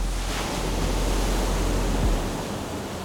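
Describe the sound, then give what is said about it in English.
A steady, broad wash of ocean water rushes past continuously, loud, as waves pour out along a ship's hull under moonlight, with a low rumbling undertone and no voices. “As you're talking, the moon is now reflecting in the waves in front of you, and the waves are pouring out from the ship, and as they pour past, they look like brush strokes.”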